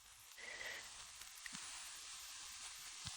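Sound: water boiling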